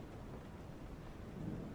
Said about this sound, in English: Listen to the rain. Listen to the rain on the window. Listen to the thunder.